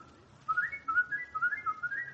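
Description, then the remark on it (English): Someone whistles a short, bright tune, a quick run of clear notes rising and falling in pitch, steady, with no talking over it. “It's very pretty whistling, McGee, but let's not lose our heads.”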